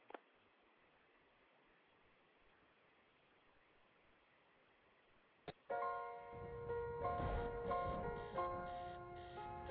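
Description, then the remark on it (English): A quiet stretch of faint ticking and hiss, broken by a click, then an alarm clock bursts into loud, continuous ringing that carries on to the end. “Alarm clock. I hate alarm clock.”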